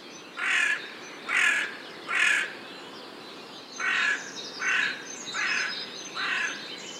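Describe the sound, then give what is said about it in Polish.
A crow caws repeatedly, seven harsh calls in two groups: three evenly spaced, a short pause, then four more. The calls are clear, with faint background noise and no talking. “Krukowate dobrze się tam mają, głównie ze względu na łatwość w zdobywaniu pożywienia.”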